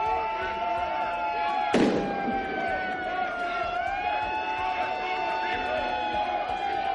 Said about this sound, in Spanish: A su llegada al juzgado, Marín ha sido recibida con abucheos.